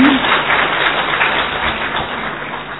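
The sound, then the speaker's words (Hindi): An audience at a gathering applauds for themselves, many hands clapping together in a dense, crackling wash of sound that holds at an even, fairly loud level throughout without any voices. “तो आप अपने लिए ताली बजाओ।”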